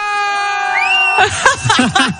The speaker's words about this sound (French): Les amis, je vous le dis, ils vous entendent dans le bus, donc j'aimerais bien qu'on fasse un gros bordel pour le 6-9. On est en direct sur Énergie, les amis. Un maximum de bruit dans le Énergie Happy Bus, on y va.